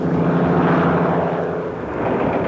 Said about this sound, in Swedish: Och flygplanet är en utav Tysklands allra vanligaste bombplan, en Heinkel 111.